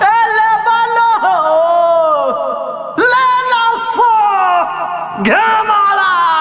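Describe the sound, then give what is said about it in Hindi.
A man's voice calls out loudly in long, drawn-out sing-song cries, three sustained shouts in a row that rise and fall, forceful like a hawker advertising goods on the street, selling ghevda. “घेवड़ा अरे कौन हो पाखानी चिल्लाता”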